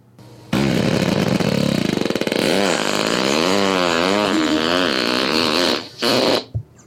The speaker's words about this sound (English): This is the nastiest, raunchiest fart that I could find that's auto-tune worthy. Here it is without.